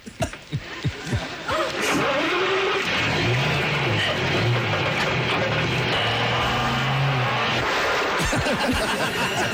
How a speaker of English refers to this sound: It's a complicated motor vehicle based on the principles of the internal combustion engine, a machine far too complicated for you to understand.